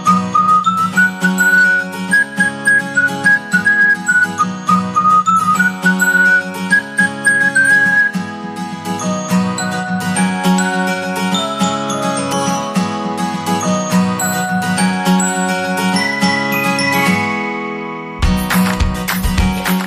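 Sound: whistled jingle tune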